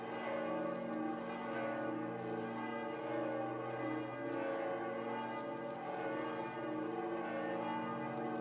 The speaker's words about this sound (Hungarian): I primi passi da pellegrini dell'anno santo, in questa basilica papale dedicata alla Madre di Dio, sono stati accompagnati dal suono dell'antica campana.